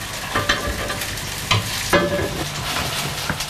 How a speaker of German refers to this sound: Dann siebe ich es ab und dann wird es gemacht wie eine Masse wie Frikadellen. Wenig später fangen die Sojafrikadellen schon an zu brutzeln.